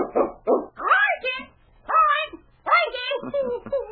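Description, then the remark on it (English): A parrot squawks out the dog's name, King, in loud, shrill, nasal bursts, repeating the call several times over a few seconds with short pauses between, amid excited dog-like yelps. “Well, listen to that bird. He hasn't forgotten King's name.”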